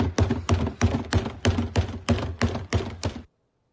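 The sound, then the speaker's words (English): A rapid series of eleven sharp, hollow bangs on a trash can, made by someone in the front row behind home plate while Altuve, Alex Bregman and Carlos Correa were in the batting cage for batting practice. The bangs are evenly spaced and fairly loud, stopping abruptly into silence. No one speaks. “I guess the best part of that particular episode of Trash Can Banging is that the reporters who saw it said the guy took off running after those 11 bangs.”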